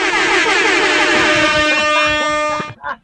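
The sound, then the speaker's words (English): A loud, blaring air horn blast holds steady for about two and a half seconds, then cuts off abruptly, leaving a brief moment of faint noise. “But we are friends of Kevin Spacey on this show, so we're going to give him an air horn.”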